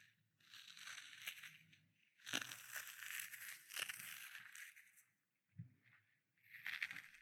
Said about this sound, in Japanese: 何の音かな。正解は紙やすり。